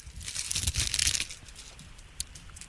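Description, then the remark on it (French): Dry, crackling crinkles as a small leaf is crumpled into a small ball, a dense burst of rustling for about a second that then fades to sparse faint crackles and one brief snap. “Alors attends, je vais chercher une petite feuille. J'en ai récupéré. Je fais une petite boule.”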